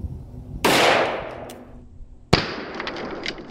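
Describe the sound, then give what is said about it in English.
A single loud .44 magnum gunshot booms and rolls off in a long fading echo, then a second sharp crack as the bullet ricochets into a tree, followed by a brief scattered rustle and clatter of knocked-down branches. “I hit it, and it ricocheted into the tree and knocked branches down.”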